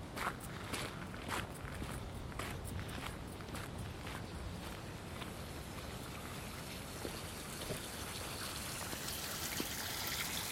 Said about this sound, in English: Here, there's just the bits of water flowing down the door. What a dangerous place it locks, actually. I'm looking at a shelf right at the bottom of the door. The door's about 8 or 9 feet tall, maybe 10 foot.